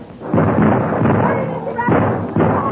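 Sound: gunfire volley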